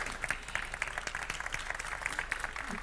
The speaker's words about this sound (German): Applaus am Anfang ist immer super